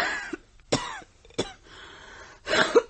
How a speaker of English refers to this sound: That cough really is bad. You need a doctor. You need to stay in bed for a few days.